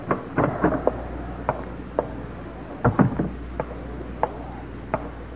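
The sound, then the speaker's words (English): Sharp, uneven footsteps knock across a hard floor as a guard salutes and strides out the door, with a heavier clustered thump midway like a door, over a low steady hum and no voices. “As the last guard salutes and strides out the door, Buzz turns to Meyerhoff, who's been sitting motionless, staring into space.”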